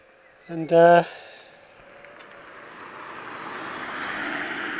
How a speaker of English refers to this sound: Just because it's narrow. Right, let's wait for this car to go.